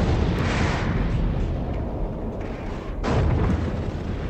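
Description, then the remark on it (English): A massive cinematic explosion, the explosion of Praxis that opens a Cold War thriller film, roars with a deep, sustained rumble that fills the whole clip, swelling again into a second loud burst near the end. No voices. “So we start off this film probably the best way any of these films can start off with a bang, literally, an explosion of praxis.”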